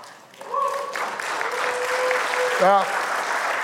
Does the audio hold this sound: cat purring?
no